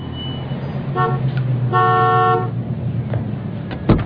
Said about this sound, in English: Oh, a honk instead of a knock. Did someone order a townie? Oh, God, the lifeguard's got a Camaro.